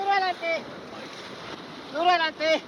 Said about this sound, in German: Das Schlauchboot schießt durch Stromschnellen, wird hin und her geworfen von den Wassermassen des Rio Pato, der sich aufbäumt, sich schäumend und gurgelnd durch dichten Urwald und wildromantische Schluchten schlängelt.